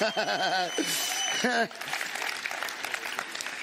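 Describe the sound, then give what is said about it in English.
A church audience bursts into applause after an introduction, with a few rising vocal whoops at first, then steady crackling clapping from many hands that continues at a moderate, even level. “So the last time I did an introduction like that, I got a rousing round of applause.”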